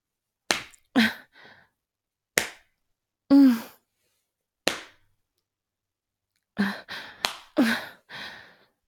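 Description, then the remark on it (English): A series of sharp hand slaps, a spanking on the buttocks, lands at irregular intervals, several followed by breathy gasps and moans, with a quick cluster of slaps near the end. “You spank me harder now.”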